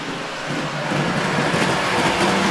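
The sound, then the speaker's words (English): A subway train rumbling along at speed, a steady, loud wash of roaring and rushing noise that holds constant throughout with no voices over it. “Sounds to me like the subway.”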